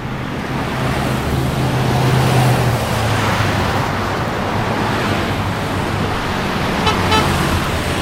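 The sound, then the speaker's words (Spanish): A car suddenly approaches over a steady roar of road noise and sounds a low, sustained horn blast, then the rushing engine noise continues with no one speaking. “¡Ni vi ese carro! ¡De repente apareció!”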